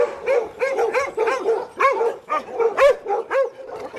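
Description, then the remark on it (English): Five dogs on a farm outside Clonmel bark excitedly and continuously at someone's arrival, their overlapping yaps and woofs coming in quick irregular bursts, loud, with no talking. “Unflappable in the midst of five dogs not happy about my arrival,”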